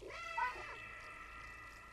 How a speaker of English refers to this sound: Come on, cat. Oh, no. I want to hear the cat's meows now, just to... And they still kind of sound the same.